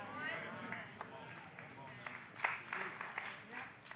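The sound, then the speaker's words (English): Sparse, uneven clapping from an audience, a few scattered hand claps that never build into full applause, with faint crowd murmur and voices underneath. “I have never seen such a half-hearted clap.”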